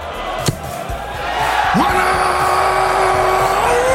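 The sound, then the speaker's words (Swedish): A sharp thud, then darts referee Russ Bray bellows a long, drawn-out call of one hundred and eighty, the maximum score for a three-dart turn, the final note held for seconds and rising at the end over a loud, cheering crowd. “Då brukar domaren skrika ut 180 högt till publikens jubel.”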